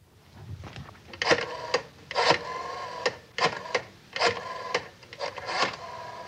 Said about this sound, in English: Rotary phone.